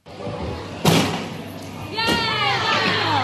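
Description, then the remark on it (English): A sharp thud of a landing rings out in a gym at Tea Tree Gully Gym Sports as girls practicing gymnastics run toward a vault and spring onto a pile of mats, followed by another impact, with children's voices chattering and calling in the background. “These girls are practicing gymnastics, running towards a vault and springing forward onto a pile of mats.”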